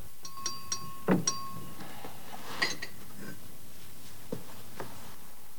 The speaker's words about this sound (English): Jane steps closer with the tray. She sets it down on a table next to Rochester.